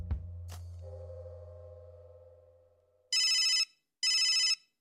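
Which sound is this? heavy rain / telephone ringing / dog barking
telephone ringing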